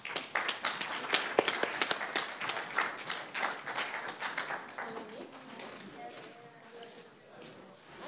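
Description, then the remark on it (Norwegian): An audience claps steadily for a group that has just presented, dense overlapping hand claps that gradually thin out and fade toward the end, with faint voices surfacing near the close. “Bare fortsett å klappe dem der.”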